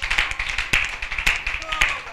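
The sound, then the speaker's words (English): A crowd gives a 'clap offering', many hands clapping steadily in a dense, crisp patter with louder accents landing roughly every half second, and voices faintly mixed in beneath the applause. “Give them a big clap offering.”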